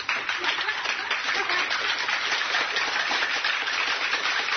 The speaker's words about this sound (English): Oh, yeah. Just clapping. All of us start clapping right now.